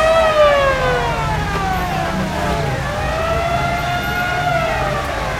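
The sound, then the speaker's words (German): A loud fire alarm siren in Rocky Beach wails continuously, its harmonic-rich tone sliding slowly down and then rising again over a steady rumble of engine noise, with no speech. “Dann wurde in Rocky Beach Feueralarm ausgelöst.”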